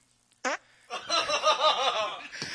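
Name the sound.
fart into the microphone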